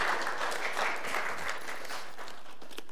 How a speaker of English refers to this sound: Yeah, you can be done. That's good. Yeah, a round of applause.